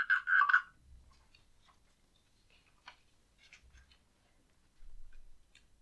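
A frog croaks loudly in a quick burst of three or four pulsed croaks, followed by quiet scattered ticking and faint low rumbles with no one talking.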